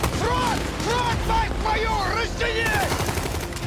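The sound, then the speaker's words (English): Action-film explosions and rapid gunfire blast loudly and continuously, a dense, chaotic battle soundtrack with raised voices shouting over the din, from a Russian propaganda film about Wagner screened at its premiere in a stadium in Bangui, Central African Republic. “It's got explosions, soaring shots of the African jungle, and nail-biting action scenes.”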